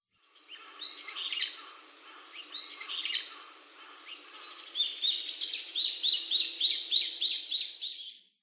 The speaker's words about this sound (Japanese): ホンセイインコです。